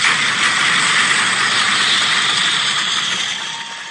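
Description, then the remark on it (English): A crowd, conducted to simulate a rainstorm, pounds on bleachers to imitate thunder, making a loud, dense, continuous roar with a deep rumbling undertone that holds steady, then eases slightly at the end. No one speaks. “Here's the thunder.”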